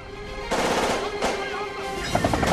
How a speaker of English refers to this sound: Terrorists take shelter behind the van and fire back.